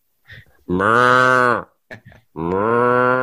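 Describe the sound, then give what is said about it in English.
A person imitates a cow mooing: two long, loud, drawn-out moos separated by a brief short vocal sound, the first slightly longer than the second. “We do insert a sound effect of a cow mooing in post”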